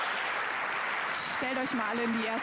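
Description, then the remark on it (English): Steady, dense clapping from a crowd fills the whole clip at an even level, with a voice briefly speaking or calling out over it near the end. “It's a big hand of applause for everything that happened in the last 4 years.”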